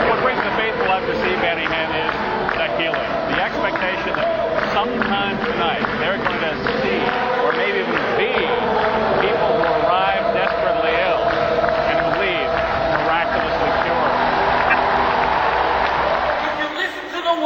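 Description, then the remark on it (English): A noisy crowd at a church service fills a large arena in Buffalo, recorded from seats high up in the bleachers with a hidden microphone: a dense, steady roar of many voices talking at once, slightly muffled, with no single voice standing out. “In Buffalo, we found our seats high up in the bleachers and began recording the service in the middle of that noisy crowd with a hidden microphone and camera.”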